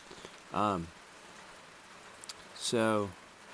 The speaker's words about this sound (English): So it's a nice experience, because I'm up here, I'm underneath a picnic shelter, and it's raining, and it's quiet, and it's remote, and there's no one around.